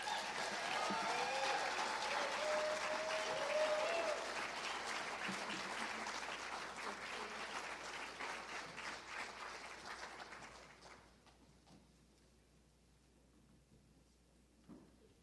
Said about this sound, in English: So with a big round of applause, let's give a big hand